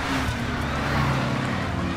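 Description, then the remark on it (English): A steady engine rumble of news vans driving up, with a low, droning hum and broad road noise holding at a fairly loud, even level throughout, with no voices. “It seems like news vans.”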